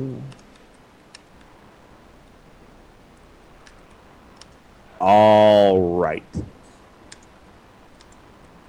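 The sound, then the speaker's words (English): Scattered soft clicks, a few seconds apart, as someone types a message on a computer keyboard, over quiet room noise. Midway through, a voice speaks briefly. “I'm typing a message, so give me a second here.”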